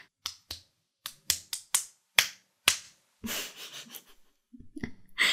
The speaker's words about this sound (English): Time to make sure you're really awake and paying attention to me. A few cock slaps will make you focus on the situation right now.